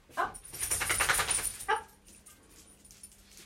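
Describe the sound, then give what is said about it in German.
The dog Tibor, just risen from the carpet in a bedroom and needing to go out, whimpers and gives a few short yips, a dense burst of whining cries lasting over a second followed by a brief sharper bark, then fading to quiet. “weil jetzt unser Hund, der Tibor, gerade aufgestanden ist.”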